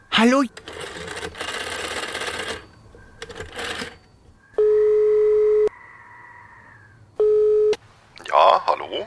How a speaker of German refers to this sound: Wir nehmen den Telefonjoker und rufen Yesterplay an.